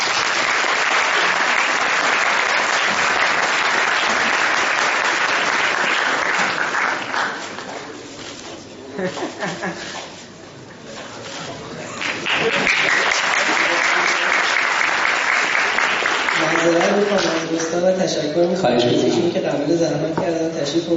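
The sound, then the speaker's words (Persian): A crowd applauds itself, clapping loudly and steadily, a dense wash of applause that dips briefly midway and then swells again, with a voice speaking over the last few seconds. “خودتون رو تشویق کنید.”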